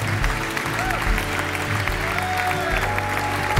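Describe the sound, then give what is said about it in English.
A crowd claps and cheers for people stepping out of their seats to come forward for prayer, a steady, dense wash of applause with scattered whoops rising above the continuous patter of many hands. “Just would you step out of your seat, and we're going to cheer you.”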